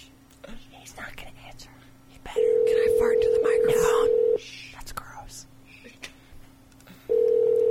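A steady, loud electronic tone sounds for about two seconds, stops, then starts again as a phone calls someone back and reaches voicemail, while people whisper quietly in the background.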